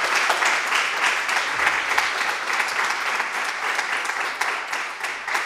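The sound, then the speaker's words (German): An audience claps to thank a speaker, a dense, even wash of applause that holds at a constant level for several seconds without voices rising above it. “Ich glaube, das hat jetzt einen Applaus verdient.”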